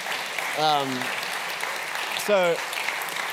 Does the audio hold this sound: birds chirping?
no